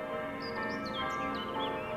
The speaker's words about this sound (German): Die Glocken der Pauluskirche setzen ein, mischen sich, behaupten sich in geschichtlichem Einklang.